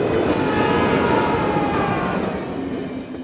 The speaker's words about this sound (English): There's a runaway railway trolley about to kill 5 innocent people on the track